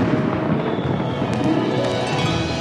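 Fireworks going off in a dense, continuous barrage of crackles and pops, with a few sharper bursts standing out midway, loud and steady throughout with no voices.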